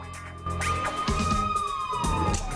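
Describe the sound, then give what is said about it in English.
A police siren on a car racing down a city street at night wails with a steady high tone that slowly sweeps downward, loud, over rumbling traffic and dramatic background music. No one speaks. “Now a swirling red police light on top of a car racing down a city street at night.”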